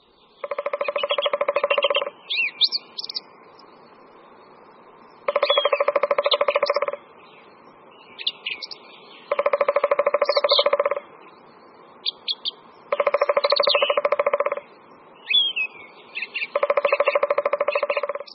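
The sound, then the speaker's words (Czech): Five drumming bursts of a three-toed woodpecker, each a fast, steady roll lasting under two seconds, spaced a few seconds apart, with small bird chirps scattered between them. “Pokud byste chtěli spatřit autora tohoto bubnování, museli byste se vypravit buďto na Šumavu nebo do Moravskoslezských Beskyd.”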